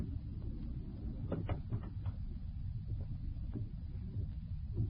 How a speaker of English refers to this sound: Close the door